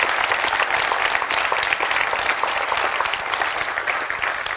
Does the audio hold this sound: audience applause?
yes